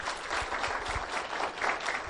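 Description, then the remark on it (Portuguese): A group applauds at a swearing-in ceremony after a new official takes the oath of office, with dense, steady clapping that fills the whole stretch at a moderate, even level, with no voices over it. “Uma salva de palmas.”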